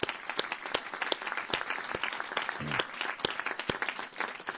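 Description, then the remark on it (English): A crowd applauds the sponsors of the Kentucky Opera, many hands clapping in a dense, continuous patter with sharper individual claps popping out, sustained at a moderate level throughout with no voices. “So please join me in a round of applause, showing our support and appreciation for these sponsors.”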